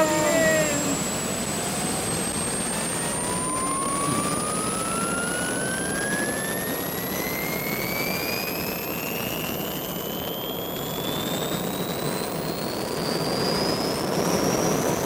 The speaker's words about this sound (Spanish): El helicóptero de la Guardia Civil. Es de costas, ¿no?